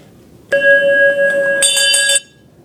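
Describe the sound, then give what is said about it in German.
A servants' bell rings insistently for under two seconds, a bright metallic jangle that swells sharper near the end before cutting off, with no voices around it. “Aber schon hat die Entspotenglocke wieder geläutet.”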